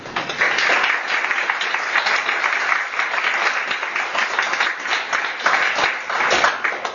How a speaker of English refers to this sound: Would you give a round of applause to our guest speakers and the panel members?